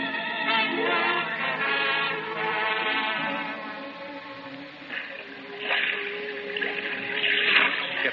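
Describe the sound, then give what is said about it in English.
Blood-warm sea water churns and swirls continuously after an explosion on a reef, a loud, dense rushing that swells in a few surges near the end, with no voices present. “The sea was eddying furiously around”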